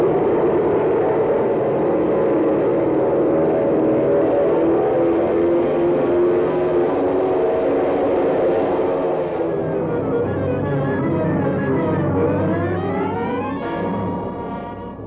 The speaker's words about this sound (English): Takeoff in the face of the gale. Will the huge transport be able to lift from the soggy field? Will the meager supply of gas be sufficient to carry the ship through the storm to the secret runway in the Everglades?